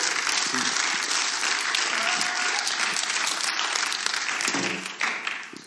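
An audience celebrating a baptism applauds steadily for a woman about to tell of her step of faith: a dense, even wash of many hands clapping that holds strong for about five seconds before tapering off, with a few voices faintly mixed in.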